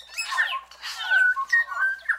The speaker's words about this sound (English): A forest in New Zealand rings with the sound of bellbirds, whose indigenous name is Korimako.